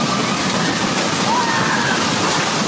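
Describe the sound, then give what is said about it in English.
A massive tornado roars, heard from inside a convenience store in Joplin, Missouri, where about 20 customers sheltered in a dark, refrigerated storeroom: a steady, dense rushing noise like a torrent of water, loud and unbroken for the whole clip, with no pauses or distinct individual sounds. “This is what it sounded like from inside a convenience store, where terrified customers rode out the storm, jammed inside a dark, refrigerated storeroom.”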